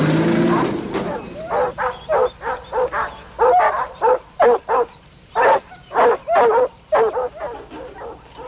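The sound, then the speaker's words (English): Hounds bark and bay in quick, uneven bursts during a chase, a dozen or more overlapping calls with a howling edge, against a low background rumble. No one speaks. “Whose hounds do you think those are?”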